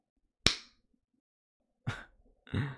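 A sharp slap of a hand against a person's face cracks out once in the quiet, followed after a pause by two duller, longer bursts of contact noise.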